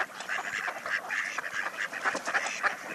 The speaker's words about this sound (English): And watch to see which duck is quacking. That's the female mallard.